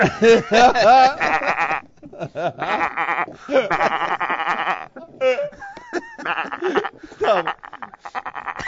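Sheep bleat over and over, loud, each call a quavering, nasal cry overlapping the next in a busy, continuous chorus with brief gaps between bursts.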